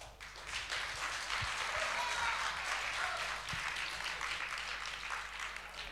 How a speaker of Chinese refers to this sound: 谢谢，感谢您各位的掌声鼓励。